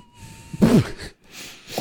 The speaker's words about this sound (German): Fuck, meine Nase pfeift.